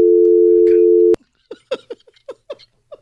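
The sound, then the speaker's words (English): A loud, steady phone dial tone hums for about a second after a caller's call drops, then cuts off abruptly with a click, followed by a string of short, choppy voice-like bursts. “Maybe that's why his phone went out.”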